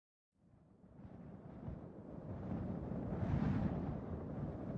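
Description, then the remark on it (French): Wind rises out of silence into a rough, rumbling roar, swelling steadily and gusting strongest near the end, loud with no voices. “Soudain, le vent se lève.”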